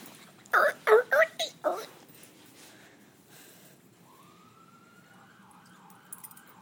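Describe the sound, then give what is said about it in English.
A voice imitates an ambulance siren, a steady wailing tone that rises and then wavers up and down for a couple of seconds, used to get a squeaky ball away from a pet. Four short, loud bursts come just before it. “I used the ambulance to get the ball away.”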